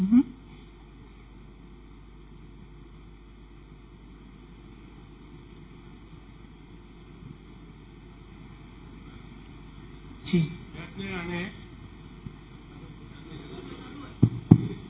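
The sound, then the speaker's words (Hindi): An electric fan drones steadily during a talk, a constant whirring hum from start to finish, loud enough to make a speaker on the microphone hard to hear, with brief muffled voices and a few knocks breaking in near the end. “आपका क्योंकि पंखे के कारण कम सुनाई दे रहा है.”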